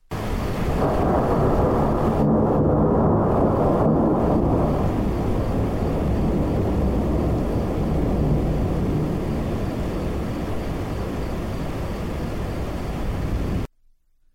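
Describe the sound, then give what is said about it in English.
A heavy alpine rainstorm in Switzerland pours down in a dense, steady roar with a deep low rumble underneath, loud and continuous throughout before cutting off abruptly at the end. “And here's one from some rainfall in an alpine, alpine in Switzerland.”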